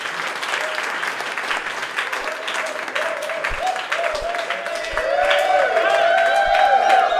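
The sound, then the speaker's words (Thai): Sustained applause from a live audience at a stand-up comedy show welcoming a comedian, dense clapping with some cheering and voices mixed in, swelling louder toward the end. “ขอเสียงปรบมือดังๆต้อนรับ”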